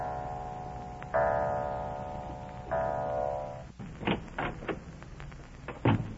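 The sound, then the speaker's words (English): Two resonant clock chimes ring out one after another, each humming and fading, followed by a few sharp clicks and knocks like a door latch and door being opened, as a man drenched by a downpour quietly lets himself into a house. “Drenched to the skin by an unseasonable downpour, he quietly lets himself into the house as the clock strikes.”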